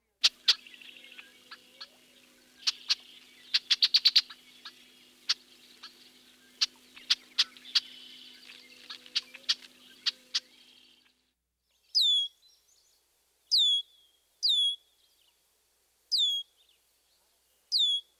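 A bird gives a run of sharp, clicky chuck notes in irregular bursts, then switches to five separate high, thin, downward-slurred sear calls, evenly spaced.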